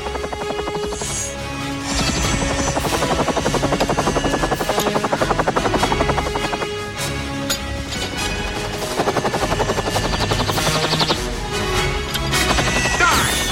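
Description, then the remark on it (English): A helicopter carrying the character Hazard approaches, its rotors thumping in a fast, steady beat, loud throughout, with dramatic music swelling underneath; no one speaks. “Hazard approaches in the helicopter.”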